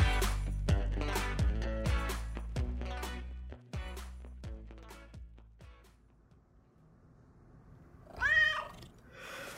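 A cat gives one drawn-out, fairly loud meow near the end, after a melodic plucked-instrument passage fades out into quiet.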